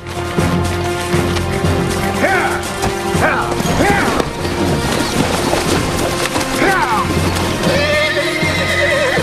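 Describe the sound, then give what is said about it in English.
Several horses whinny and snort in sharp, rising bursts while hooves clop and splash unevenly as the horses are ridden into and across a river, a busy, loud scene with steady rushing water noise underneath. “Elizabeth's horse takes some encouragement to enter the river”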